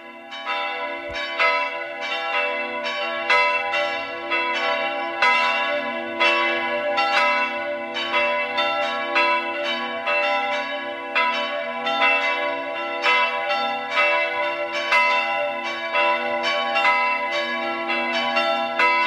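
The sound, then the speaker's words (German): Bells of the Catholic parish church of Stadt Schleining in Burgenland peal continuously at 12 noon in a dense, overlapping ringing with many bright tones and a steady low hum, loud, with no voices heard for the whole stretch. “Sie hören die Glocken der katholischen Pfarrkirche von Stadt Schleining im Burgenland.”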